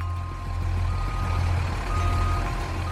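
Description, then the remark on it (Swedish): A tow truck reverses down a footpath toward a canal bank with a deep, steady engine rumble while a high-pitched backup alarm beeps above it, with no one speaking. “Men helt plötsligt börjar en bergarbil backa ner för gångvägen mot oss.”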